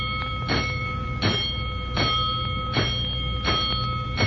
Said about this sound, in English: Seconds later, the alarm signal has been channeled to the proper stations, including the rescue company.